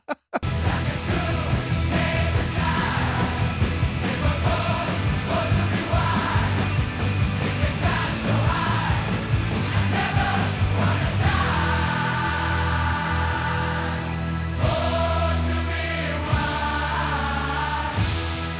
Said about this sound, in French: c'est du Stadium Rock, voilà, il faut des trucs qui puissent vraiment galvaniser 40 000 personnes